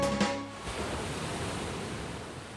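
Sea waves wash steadily onto a sunny shore, a continuous broad hiss of surf at moderate volume with no voices, after a brief faint tonal sound at the very start.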